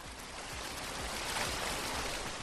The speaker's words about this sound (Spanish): Así baja el agua a esta hora, agua marrón, agua que lógicamente no viene limpia, agua que viene arrastrando todo lo que pilla prácticamente desde la parte alta hasta el final de su camino, que se sitúa a unos 300 metros de donde me encuentro,